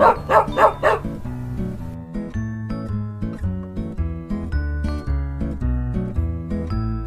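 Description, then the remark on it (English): A dog barks three times in quick succession, loud, then a cheerful musical tune takes over and plays to the end. “This is my dog.”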